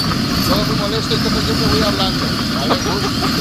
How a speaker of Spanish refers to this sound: Vamos a ensuciar un poquito la emisión con un ruido así de obras. Métele un poco de acople y de estática.